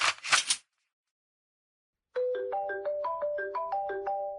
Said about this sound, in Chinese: 谁给我打电话？不是我的。操，是他的，铃声都一样，真晦气。